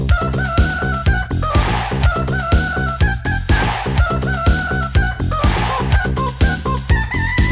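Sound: rooster crowing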